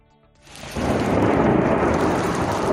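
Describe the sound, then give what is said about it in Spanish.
Thunder swells out of near silence into a loud, sustained rumble layered over steady heavy rain, a full storm roaring without any voices. “Soy Javier Luna, escuchas La Linterna en COPE en esta tarde de viernes, en la que hemos tenido prácticamente de todo: sol, lluvia, granizo, también tormentas.”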